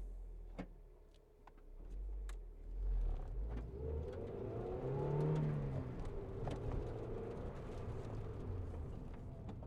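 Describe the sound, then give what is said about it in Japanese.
A large three-row-seat minivan pulls away and gathers speed, heard from its middle row, its engine and road rumble rising steadily beneath a few sharp clicks and knocks from inside the cabin, with no one speaking. “大きな三列シートのワゴン車の真ん中の席に乗ると、車は動き出す。”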